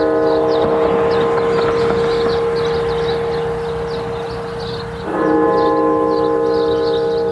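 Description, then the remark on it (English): Deep bells of the National Cathedral in Washington toll loudly and resonantly, struck 500 times for a death toll over 500,000, their long humming ring sustaining throughout, with a fresh strike swelling in near the end. Faint chirping sounds in the background, and no one speaks. “The National Cathedral in Washington striking the bells 500 times for a death toll now over 500,000.”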